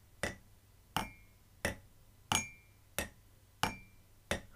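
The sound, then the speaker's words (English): Someone imitates the ticking countdown clock of the TV show 24 with their voice: seven sharp, evenly spaced clicks, about one every two-thirds of a second, each with a faint metallic ring, over a quiet background. “That's my 24 noise.”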